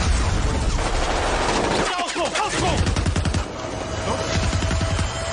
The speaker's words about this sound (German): Pulsierende Töne, verzerrte Geräusche, ratternde Schusssalven und der infernalische Lärm explodierender Granaten werden unterschnitten von absoluter Stille.